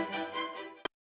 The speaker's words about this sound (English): Static, noise, that's all we hear, or so it seems.